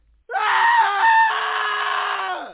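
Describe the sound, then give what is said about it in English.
A single loud, sustained human scream of fright, high-pitched and strained, rising sharply and holding for about two seconds before trailing off; no talking around it. “I screamed and started running like crazy.”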